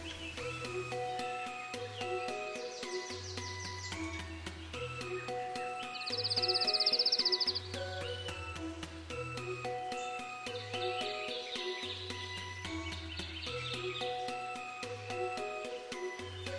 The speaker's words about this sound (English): We're able to study them in naturalistic settings in our aviaries at Indiana University, where we can provide large cages and let the birds live almost naturally as they would in the field.